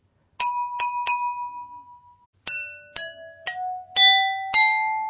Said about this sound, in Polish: Szkoda, że mamy tylko 5 szklanek, bo jakby było trochę więcej, to mogłybyśmy grać jeszcze więcej różnych piosenek. To dołóżmy 6. Dobrze, najwyższą z wszystkich. Czyli tylko trochę wody. Sprawdźmy.